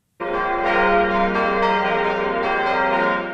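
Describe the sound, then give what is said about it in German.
Church bells of the abbey church in Tholey, Saarland, Germany, ring out loudly and continuously, overlapping peals with bright, sustained tones and repeated strikes layered together, with no voices. “2 Jahre haben die Glocken der Tholeyer Abteikirche geschwiegen.”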